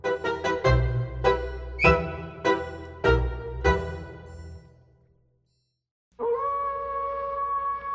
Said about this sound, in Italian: In quel momento, un raccapricciante ululato squarciò il silenzio della notte e Paul rimase immobile, come pietrificato. Il lupo mannaro doveva essere vicino, troppo vicino.